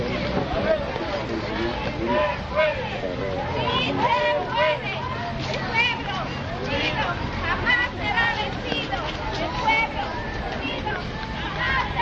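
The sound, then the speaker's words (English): A dense crowd murmur fills the scene, many voices overlapping in a steady outdoor hubbub with some wind, as people march after work in a peaceful, orderly street demonstration in Tulare. “Those are the people marching in a very peaceful, orderly demonstration.”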